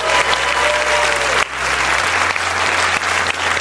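A round of applause from a large crowd at a live show at Houston's Hobby Center, for the manager of business operations who organized the show, dense and steady clapping that stays loud throughout with a brief dip partway, a low hum running underneath.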